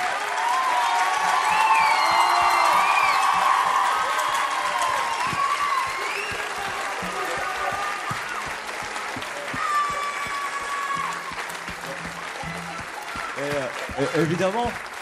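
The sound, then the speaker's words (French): A large audience at a concert applauds a musician steadily for the whole stretch, with scattered cheers and whoops rising over the clapping and some voices calling out near the end. “c'est un musicien génial, il fait plein de choses pour nous, alors on peut l'applaudir.”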